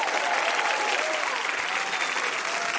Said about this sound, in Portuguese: Palmas para o menino de Palmas, Paulo Vieira!